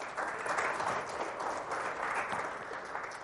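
A crowd applauds steadily, a dense wash of many hands clapping at once, sustained at an even, fairly loud level for a few seconds without letting up.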